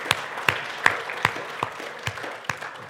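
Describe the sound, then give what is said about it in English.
A church audience at a Sunday service claps together in praise to the Lord in a steady rhythm, sharp unison claps landing about twice a second over a softer, continuous patter of scattered hand claps, with no voices. “Come on, join me in a hand clap of praise to the Lord.”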